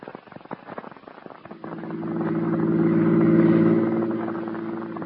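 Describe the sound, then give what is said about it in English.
A car engine clatters briefly, then catches and settles into a loud, steady humming drone that swells as the car drives by, easing off slightly at the end. “Get the car out. I'll show you if I'm nuts or not. You do what I say. We're going to drive.”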